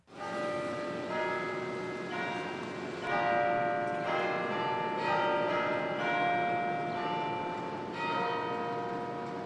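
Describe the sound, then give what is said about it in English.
A peal of the large bells of St. Patrick's Cathedral in New York rings continuously on a Sunday morning, strikes overlapping in a rich, resonant wash with long ringing tones, loud and sustained with no voices. “Every Sunday morning in New York, the bells of St. Patrick's echo through the city, beckoning Catholics and non-Catholics to the cathedral's massive bronze doors.”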